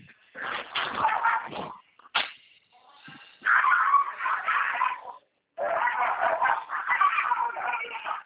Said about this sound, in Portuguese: Calma aí. Tá. Cachorro aqui, então.